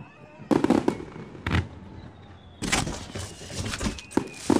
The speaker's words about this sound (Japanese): どうでもええけど、これほとんど打ち上げ花火やん。 教授、打ち上げ花火以外はないんですか。